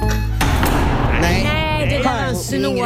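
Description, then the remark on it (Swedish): A door slams shut right in a man's face with one sharp, loud thud near the start. Animated, wavering vocal sounds follow and carry on to the end. “Ja, du kan väl hålla dörren öppen lite längre. Ja, det var lite dåligt tycker jag. Smällde den rakt i ansiktet på honom.”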